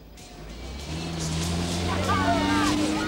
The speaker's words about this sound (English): As the 4x4s race along the beach, the getaway car advances through the field until eventually it's in the lead.